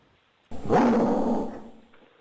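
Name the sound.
dog growling and barking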